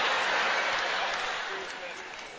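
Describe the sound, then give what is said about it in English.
A church audience claps together during a sermon in a dense, steady patter of many hands, fairly loud at first and tapering off slightly toward the end. “Don't even bring the clap.”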